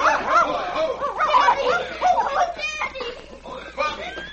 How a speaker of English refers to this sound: My boy, we were coming along the trail and heard the dogs barking.